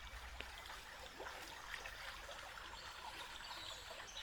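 Water trickles steadily along a small stream, a continuous bubbling babble with faint splashes scattered throughout, heard alone at a low, even level with no voices.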